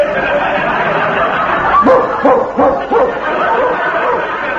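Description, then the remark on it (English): A dog barks four or five times in a quick, uneven burst, fairly loud against a dense, noisy background hubbub. “Keep that dog under control”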